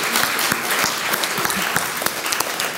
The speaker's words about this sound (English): Good job, guys. Can we give them a hand of applause?